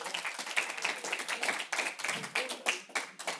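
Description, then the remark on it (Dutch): A group of students of the Moendoes applauds, many hands clapping in a dense, steady patter that keeps going for several seconds with no voices over it. “Geef jezelf nog een laatste applaus.”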